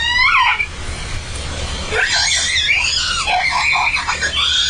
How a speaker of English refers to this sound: And as they dove, that calf came off her rostrum and they went past, and you could see the calf behind them, and you could hear the scream.